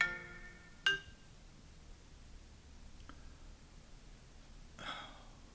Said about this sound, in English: I'm sorry for the interruption. I usually turn my phone off, but it's a working morning.